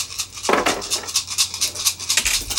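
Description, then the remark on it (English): A handful of dice rattles and clatters, a dense run of bright, clicky taps with two heavier tumbling bursts, no voices present. “Need to roll 3 more.”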